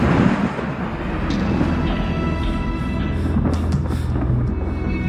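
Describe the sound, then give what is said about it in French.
Continuous low rumbling of a thunderstorm, with faint crackles and pops of fireworks scattered over it during a festival celebration, steady and fairly loud throughout, no voices. “Dans les airs, les feux d'artifice se mélangent aux éclairs de l'orage qui gronde et qui écourte la fête.”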